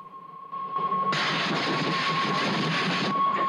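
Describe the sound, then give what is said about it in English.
A train whistle sounds one long, steady note while the loud rush and rumble of a train approaching a tunnel swells up around it, roaring to the end. “The boy hears the train whistle.”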